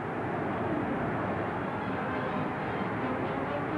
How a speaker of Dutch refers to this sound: Als het aan het publiek ligt, zeker niet. Luister hoe de Nederlanders worden aangemoedigd.